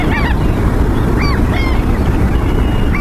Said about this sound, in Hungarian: Most pedig élvezzük a napsütést néhány másodpercig a tengerparton.